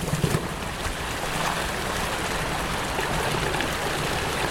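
creek water flowing

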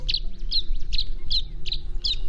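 tree swallow calls

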